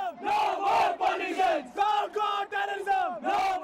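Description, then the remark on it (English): A crowd of thousands of demonstrators chants loudly in unison, 'Down with politicians, down with Pakistan', in the lanes around a cafe and the Taj and Oberoi hotels after terrorist attacks. Their voices rise and fall in a steady rhythmic cadence of short repeated phrases with brief pauses between them. “Down with politicians, down with Pakistan, the demonstrators chanted, their anger directed in equal measure at two governments they held responsible for the attacks,”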